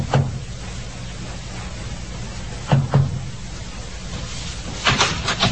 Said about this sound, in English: First Officer Forsyth, with Watchman Petrie at his elbow, knocked discreetly on the door to B-24.